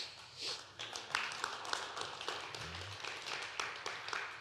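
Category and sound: crowd, audience clapping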